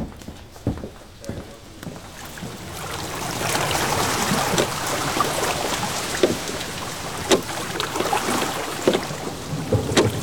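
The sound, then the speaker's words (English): A boat crosses water toward Plan Palais as a storm approaches, with lightning over the summit of Mont Blanc; a steady wash of splashing and wind, occasional sharp knocks, and a low rumble of thunder rolling underneath. “During the short journey across the water, I saw the lightning playing on the summit of Mont Blanc in the most beautiful figures.”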